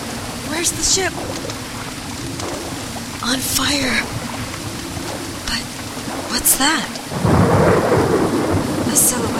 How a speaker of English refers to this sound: A storm. And a cage above decks. On fire? Waves like walls.